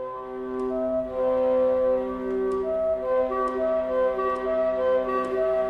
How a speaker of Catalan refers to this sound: el detall de Beethoven de primer fer tocar aquesta crida a les vaques al clarinet